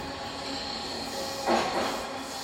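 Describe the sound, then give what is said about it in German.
A subway train runs with a steady rumble and droning hum, broken by a brief hissing surge partway through; no one speaks. “You know, veterans don't like taking the metro.”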